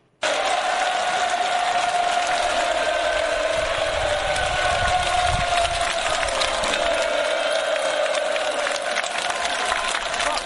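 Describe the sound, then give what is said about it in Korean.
A huge crowd of Pyongyang citizens in North Korea roars and cheers continuously at high volume in the dark, recorded on site, a dense, unbroken wall of shouting voices with a sustained rising tone, heard from right beside the crowd. “함성 소리 때문에 잘 들릴 수 있는지 모르겠지만 현장에서 직접 녹음한 음성입니다”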